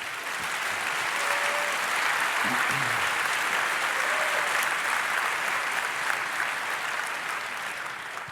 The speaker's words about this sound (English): Please welcome with a warm applause